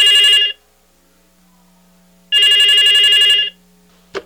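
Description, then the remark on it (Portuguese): A telephone rings twice, loud, its bright trilling bell separated by a pause of quiet hum, followed by a short click at the end. “Após ter tomado seu banho, ia saindo numa depressão medonha, quando o telefone toca.”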